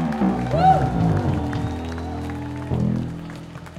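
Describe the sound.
An audience applauds steadily for a few seconds, the clapping mixed with loud cheering and whooping voices, and the applause swells again briefly near the end.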